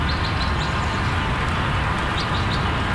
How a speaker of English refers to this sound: To get away from the loudest noise, we interviewed two people about one quarter mile north of the freeway in an outdoor shelter of Milwaukee County's Mitchell Boulevard Park. Even there, freeway sound competed with chirping birds.